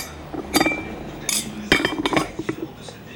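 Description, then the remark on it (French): Dishes and cutlery clink and clatter as a table is cleared, several sharp irregular knocks and scrapes of plates and utensils spread over a few seconds, with no one talking. “Voilà, je débarrasse déjà ça.”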